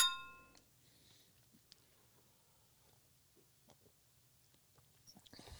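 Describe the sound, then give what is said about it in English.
A single bright glass clink from a toast rings out at the start and fades over half a second, followed by quiet sipping and small mouth sounds as a sweet 12% Plaid Habit drink is tasted, with no talking. “Let's raise a glass and find out.”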